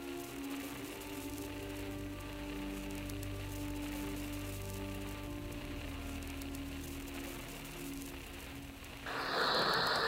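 Heavy rain pours down steadily in a dense, hissing wash over Florence, Italy, during the Arno flood, with a low droning hum underneath; near the end the downpour surges louder and brighter.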